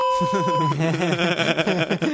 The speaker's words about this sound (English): I like this whole beeping thing that we're going to do now.